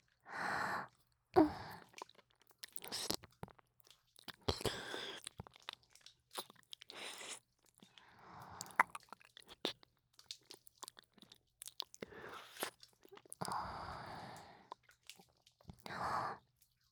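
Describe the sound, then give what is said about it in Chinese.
Crunchy chewing with sharp irregular bites and squishy mouth noises, broken up by heavy breaths and soft gasps. No one speaks. “剩一半了，吃下去，乖。”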